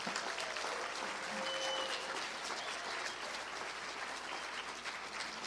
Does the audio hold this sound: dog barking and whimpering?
no